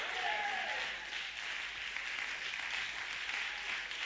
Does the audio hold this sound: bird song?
no